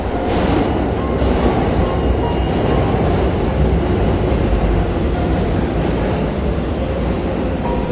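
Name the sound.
train passing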